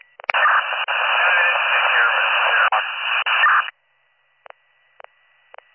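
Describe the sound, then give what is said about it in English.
A loud, steady burst of radio static hisses for about three seconds with a few brief dropouts, then cuts off, followed by several short, faint clicks or beeps in the quiet that follows. “Here you go, then you're all static.”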